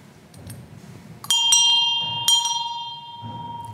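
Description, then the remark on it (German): A small bell that hung at the sacristy door of the Protestant church in Nachroth rings out with three quick, bright strikes, its clear metallic tone lingering and slowly fading over a soft, low background rumble. “Und diese Glocke hing an der Sakristeitür der evangelischen Kirche in Nachroth.”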